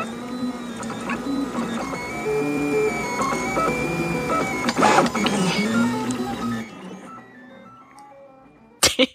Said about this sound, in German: Das sind übrigens, was man da hört, sind die Schrittmotoren, die machen diese lustigen Geräusche.